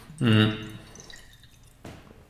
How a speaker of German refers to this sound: Ich nehme jetzt mal ganz kurz einen Schluck Wasser, weil mein Hals wird ganz trocken.